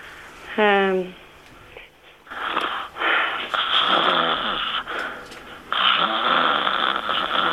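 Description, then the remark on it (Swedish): A person deliberately snores three times in a row, loud, each snore a rough, rattling breath with brief gaps between, after a short voiced sound at the start. “Och så gör du tre snarkningar på rad.”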